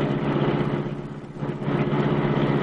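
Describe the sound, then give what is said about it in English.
The Black Beauty, the Green Hornet's sleek, super-powered streamlined car, roars loudly into life, holding a steady, throaty rumble that briefly eases off in the middle before surging back up. No one speaks. “The great car roared into life.”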